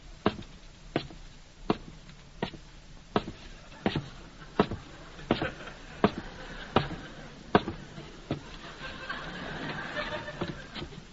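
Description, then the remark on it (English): Quick footsteps hurry up a staircase to the second floor in an even rhythm of sharp thumps, roughly a dozen and a half, while a low murmur of voices and chatter swells toward the end. “Well, I'd better hurry upstairs before the turkeys are all sold out.”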